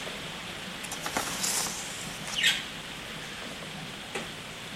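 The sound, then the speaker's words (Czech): Soft, steady rain patters down in a constant hiss, with a few louder drips and splashes standing out now and then. No one speaks. “Pokud někoho nebaví to mít čtení, tak může poslouchat, jak prší.”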